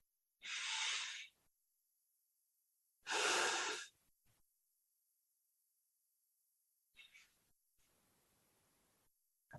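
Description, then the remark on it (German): Two long, deep breaths in through the nose and into the belly, each a loud airy rush lasting about a second, separated by a quiet pause, followed by fainter softer breathing near the end. “Atme durch die Nase, in den Bauch. Noch 2-3 Mal.”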